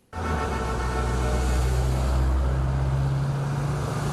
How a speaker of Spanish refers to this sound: Más de 200 coches clásicos y antiguos tomaron la famosa Avenida del Malecón de La Habana en una colorida competencia que mostró el patrimonio automovilístico de la isla.